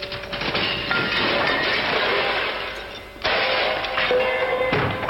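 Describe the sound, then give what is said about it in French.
A hammer aimed at the centre smashing a receiver as part of a game: loud, continuous crunching and shattering with clinking debris, renewed in fresh bursts of impact a few times over several seconds, with no voices. “Pour faire ce jeu, il vous faut un marteau. Vous visez bien au centre.”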